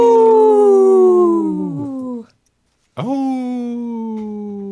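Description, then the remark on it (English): A person imitates a wolf howl: two long, loud, sustained wails, each sliding slowly downward in pitch, separated by a short silent breath. “Howl!”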